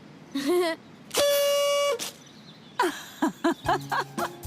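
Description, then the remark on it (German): A toy party horn blares one long, steady, buzzy note, then gives a rapid string of short, uneven toots, loud, with no talking. “Eine Tröte.”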